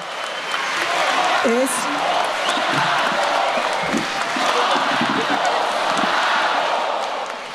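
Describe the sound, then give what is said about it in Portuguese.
A large crowd in Brazil, following a public reading of the Carta às Brasileiras e aos Brasileiros, shouts and chants against President Jair Bolsonaro in a dense, steady roar that holds for several seconds, loud, with individual voices breaking through the mass of noise. “a multidão que acompanhava a leitura logo soltou gritos contra o presidente.”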